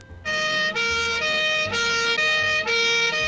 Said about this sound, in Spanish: ¿Ambulancia? ¿Podría ser? Una policía, sirena. Policía, sirenas. Una sirena.